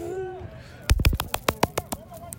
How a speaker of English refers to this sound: I was gonna clap and scream, but I just clapped.